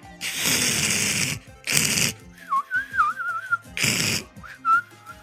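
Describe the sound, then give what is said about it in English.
A voice imitates the referee whistle of Intellivision sports games such as hockey, baseball and football: three harsh, hissing static-like bursts alternate with a warbling, trilled whistle at a steady mid pitch, like a referee's whistle. “But he had all the sports games, played a lot of hockey and baseball, football, and they all had that terrible whistle, like ref whistle. Like, here's my impression of Intellivision.”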